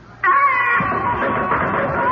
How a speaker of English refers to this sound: But will it remain that way as Uncle Terence's picture rocks on the wall and once again we hear the eldritch scream of the banshee wail?